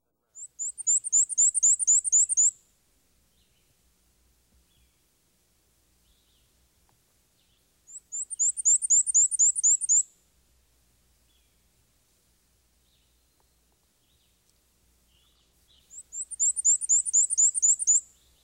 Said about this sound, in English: Our first bird is the black and white warbler. He's the bird whose high-pitched song sounds like a squeaky wheel turning round and round.